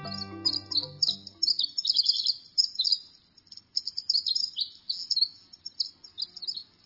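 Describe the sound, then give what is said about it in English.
A long, rapid cascade of high, tinkling trills and twitters from a winter wren in a moist conifer forest, bubbling almost nonstop with brief pauses, clear; a low tonal hum fades out in the first couple of seconds. “Pausing from this robust song, the winter wren hops onto a log deep in a moist conifer forest.”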